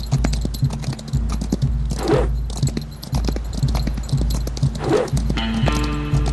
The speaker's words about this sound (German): Los, schneller Pferdchen.